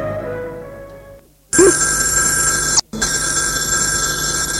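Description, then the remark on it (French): A loud telephone bell rings with a harsh metallic jangle, cutting off briefly for a split second before ringing again continuously, a father phoning Nicolas. No one speaks. “Le père, le jour même, téléphone à Nicolas pour lui dire de venir le voir à Lyon.”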